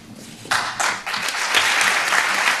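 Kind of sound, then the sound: crowd, applause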